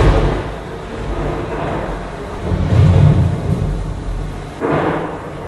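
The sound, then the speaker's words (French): A low, rolling rumble of simulated thunder swells in the middle and fades, with a broad hiss like rain over it and another brief surge near the end, no voices present. It is a thunderstorm sound effect in a staged reconstruction, created by the company La Prod est dans le Pré. “Alors effectivement, ça commence à gronder, à clignoter un petit peu au-dessus de nos têtes, ça sent mauvais.”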